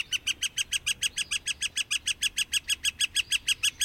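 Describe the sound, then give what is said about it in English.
A northern flicker, a ground-feeding woodpecker, calls a long, rapid series of bright, evenly spaced notes, about five per second, loud, with no voices and only a faint background hush. “Other species you might see at a ball field, northern flickers.”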